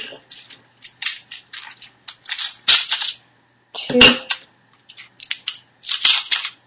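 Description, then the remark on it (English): Eight ice cubes from a freezer ice cube tray dropped one after another into a bowl in a kitchen, making an irregular series of sharp, bright clinks and clatters, with a couple of louder knocks among them. “You said 8 ice cubes.”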